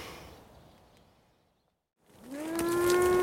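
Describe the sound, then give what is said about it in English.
A cow being driven along on a farm lets out a loud, drawn-out moo that swells in and holds steady near the end, following a fading rustle and a brief moment of silence. No one speaks. “I meant the cow.”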